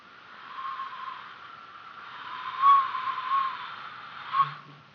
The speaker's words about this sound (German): Achtung! Lebet wohl, ein kurzer, schriller Pfiff.